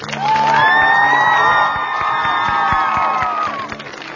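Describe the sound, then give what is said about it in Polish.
A large gathered crowd at the sanctuary of Our Lady of Osuchowa in Osuchowa, at a Radio Maryja gathering, gives warm applause, cheering and whooping in sustained, high-pitched voices for about three seconds, with scattered clapping underneath, then the noise fades out. “Przywitajmy ich gorącymi oklaskami.”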